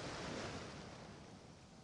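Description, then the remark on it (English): Ocean waves wash onto the shore and over wading feet in a steady, broad hiss, swelling slightly at the start and easing off gently, with no voices present. “And as you continue to take more steps forward, more waves wash over your feet.”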